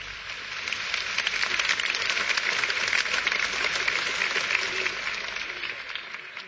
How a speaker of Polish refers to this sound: Moi drodzy, ostatnie brawo było przy sercu. Temu się nie można tak bardzo dziwić.